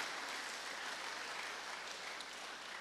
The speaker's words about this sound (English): Let's clap our hands for the King. Hallelujah.